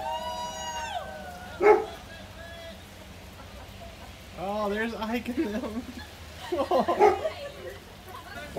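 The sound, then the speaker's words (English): A small puppy gives a couple of short, high yips a few seconds apart while people talk over a steady low rumble in the background, during a surprise birthday parade driving by a house. “Look at the puppy rat.”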